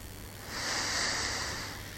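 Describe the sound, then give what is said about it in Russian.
A deep inhale drawn in through the nose during a guided breathing exercise, a soft airy hiss that swells over about a second and then eases off, with no talking. “Закройте глаза и сделайте глубокий-глубокий вдох носом.”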